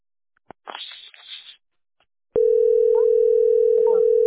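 After a short burst of rustling, a loud, steady telephone line tone kicks in and holds one unbroken mid-low pitch to the end, with faint murmurs barely showing beneath it.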